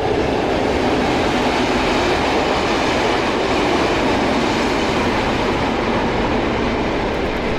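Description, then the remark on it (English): A long freight train rumbles past in a steady, loud, continuous roar of wheels and rolling stock, with a faint rhythmic clatter running through it and no talking. “That was a long one. Freight train, I think.”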